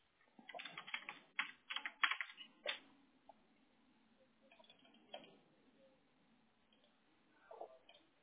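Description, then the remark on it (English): Typing on a computer keyboard: a quick flurry of clattering keystrokes for a couple of seconds, then a few scattered, softer taps after a pause. “It's like, this is why I don't wear acrylic nails anymore, because every time when I would go typing, it would hit a different letter, and I'm like, oh, Lord.”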